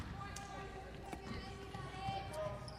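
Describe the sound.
A basketball is dribbled on a hardwood court, a few scattered bounces echoing through a busy gym with crowd murmur and a voice talking over the action.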